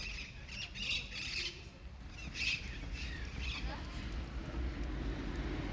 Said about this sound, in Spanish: Los pájaros parecen que como que supieran que me voy. Qué lindo que cantan el día de hoy.